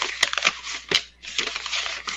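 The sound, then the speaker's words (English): A sheet of paper is rustled to imitate a newspaper: it crinkles, with several sharp crackling bursts among continuous papery shuffling, like newspaper pages being handled. No one speaks. “I'm going to imitate it with a sheet of paper.”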